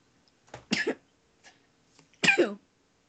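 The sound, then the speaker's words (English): Two abrupt sneezes, each a short explosive burst, the second sharper and louder, with a quiet pause between them and no talking. “Bless you.”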